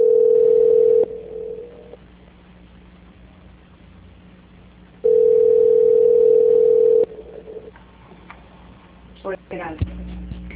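Two long, steady mid-pitched telephone tones, each lasting a second or two, separated by a few seconds of faint line hiss, followed by soft clicks and rustling as a call is transferred to Banco Santander's quality control.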